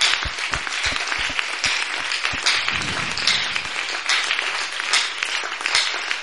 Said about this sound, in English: thank God with our hand claps for that word we have heard. Let's accept be changed. Let's give a hand clap to the ministers.